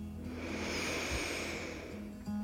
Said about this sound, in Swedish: Ta ett djupt andetag in. Sucka ut. Två gånger till. Andas in.